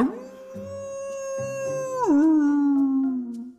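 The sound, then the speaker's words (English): A single long howl from a big wolf, held steady and strong before sliding down in pitch and trailing off, with no talking, only faint low tones underneath. “She was standing next to a great big wolf.”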